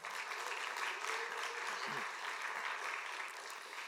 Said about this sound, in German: Das hat alles meine Frau hier vorbereitet. Gebt ihr doch mal einen kleinen Applaus.